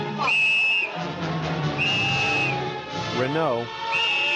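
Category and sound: signal or alarm, police whistle blowing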